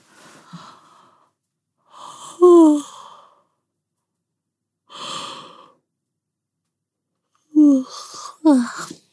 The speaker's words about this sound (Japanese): あくびが出ちゃった。